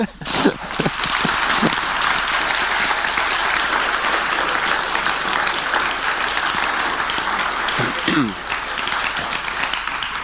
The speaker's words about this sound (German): Dankeschön für den kräftigen Applaus.